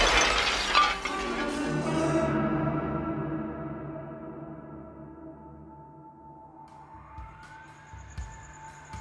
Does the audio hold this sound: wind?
no